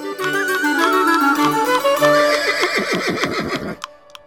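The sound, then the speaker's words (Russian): A horse lets out one loud whinny that starts high and strained, then breaks into a fast, wavering descending neigh before cutting off, followed by a couple of faint clicks. “«Где же ты взяла такого коня?»”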